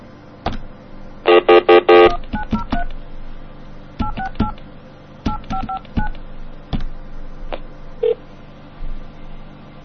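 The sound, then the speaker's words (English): A payphone (a COCOT) being called: a quick cluster of touch-tone beeps, then a series of single keypad tones spaced irregularly, with faint clicks and handling noise between them. The payphone sits in a shop by the cashier and is rung repeatedly. No one speaks. “I mean, we'll just keep ringing it. That'll answer it just to shut it up.”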